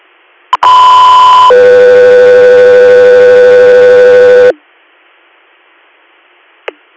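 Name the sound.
dispatch alert tones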